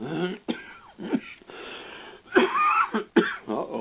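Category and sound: human body sound, coughing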